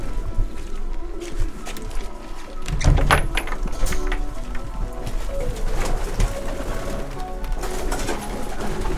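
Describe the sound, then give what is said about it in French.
Pigeons coo steadily in a loft, several birds overlapping in low, throaty murmurs, with a brief louder rustle or bump near the start and a constant background hum. “Les pigeons, je veux pas qu'ils stressent, je veux qu'ils se décompressent.”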